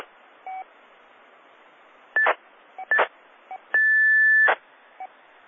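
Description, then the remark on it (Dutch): A steady high-pitched 1740 hertz radio tone beep holds for nearly a second, surrounded by several short beeps and crackly bursts of radio static over a constant hiss; no one speaks. “Nee, dat is de 1740 hertz dan voor mij, dat wil ik nou activeren.”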